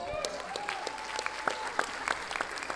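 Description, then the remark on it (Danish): A festival audience in Tønder claps steadily after three days of an acoustic music festival: dense overlapping handclaps with sharp individual slaps popping out, a continuous bright rattle of applause with a faint tonal whistle or cheer running underneath. “Giv lige jer selv en hånd for at overleve tre dage af verdens bedste festival.”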